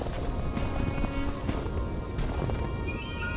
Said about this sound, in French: Tu vois quelque chose, toi? Pas avec cette tempête.